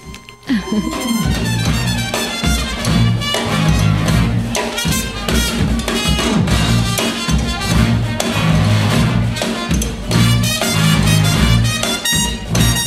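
A North American brass marching band of about twenty men and women, in the New Orleans tradition, plays tubas, trumpets, trombones and drums along an avenue, loudly and steadily, with bold horn lines over a heavy low bass and punchy drum hits keeping a driving beat throughout.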